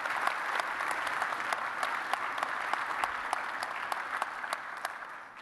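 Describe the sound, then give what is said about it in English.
An audience across church campuses applauds steadily to thank mothers, a dense wash of many hands clapping with sharp individual claps standing out, holding even loudness throughout without any voices. “So one more time, in all of our campuses, would you help me just thank our moms by a round of applause in all of our campuses.”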